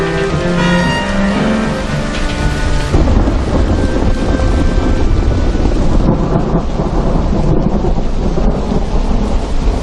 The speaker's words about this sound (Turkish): Yağmur yağıyor. Pencereyi kapatır mısın kızım?